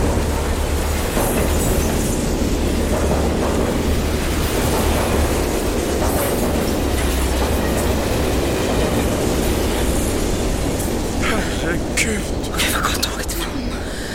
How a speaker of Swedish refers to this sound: Fy fan, jag kunde ju ha dött. Jag nästan kände ju tåget röra vid mig.